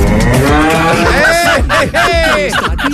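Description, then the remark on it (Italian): A cow moos loudly, drawn-out lowing calls with wavering, rising and falling pitch that fill the whole few seconds without pause. “Le mucche fanno mu, ma una fa mu.”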